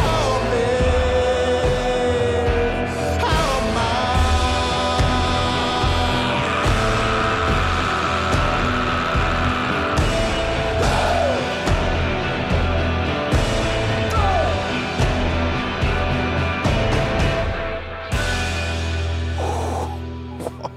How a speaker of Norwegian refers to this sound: Intens på slutten. Ja, ah, mye via, veldig mye her. Det altså det skriket på slutten her.